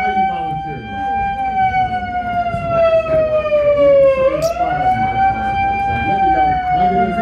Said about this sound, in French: Une sirène qui sonne d'un coup. Excuse me, what was that? Some homeowner has gotten a workout. We've been able to save their home, save their mortgage and put them into a mortgage that they can afford. Voilà, la sonnerie, ça veut dire qu'on a réussi